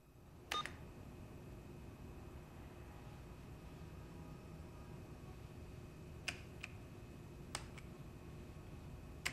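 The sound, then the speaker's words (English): A few sharp, clicky keystrokes tapped out slowly and unevenly, with long pauses between them, as someone seated types awkwardly on a computer keyboard trying to guess a password, over a low steady hum. “She crosses to it, and sitting on the chair, she begins typing awkwardly, trying to guess the password.”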